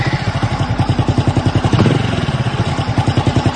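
A motorcycle being started in an empty parking lot under a banyan tree runs with a steady, rapid chugging idle, briefly swelling in a short rev midway before settling back into its even putter. No voices.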